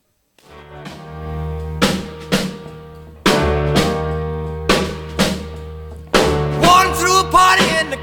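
A 1950s rock and roll recording plays loud, with sharp full-band hits landing in punchy paired bursts over a sustained bass and guitar tone. No singing yet.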